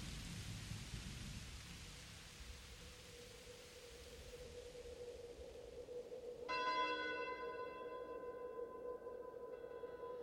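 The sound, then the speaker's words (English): A steady hiss of rain with low, rolling thunder rumbling beneath it, followed midway by a sustained ringing tone that hangs over the storm noise until the end. “The storm has ceased.”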